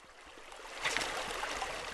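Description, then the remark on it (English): A small, cold mountain stream in the Shields Basin, Montana, flows steadily, a continuous bright rush of water with light gurgles and splashes that swells slightly after the first moment, with no voices. “If you wade into one of the tiny streams of the Shields Basin in Montana, you might see a 2-inch fish wriggling out from under a rock.”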